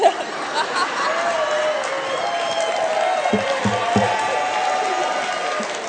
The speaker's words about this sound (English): Why are you all clapping?